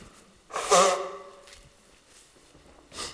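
A person turns away and quickly blows their nose once, a short muffled honk, followed by a few quieter breathy rustles and a soft puff near the end.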